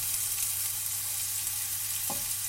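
Garlic and rosemary from a marinade sizzle steadily in hot olive oil with chopped shallot, a continuous hissing crackle with a brief low knock of a utensil near the end. No one speaks.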